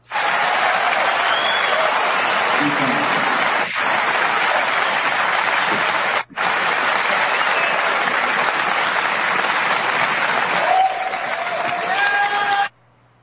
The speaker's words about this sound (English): That's why these people are just applauding so they can participate. They're just doing it to jerk off, you know. All that frustration, having to be quiet for 5 or 7 minutes, has to come out. They just want to make noise.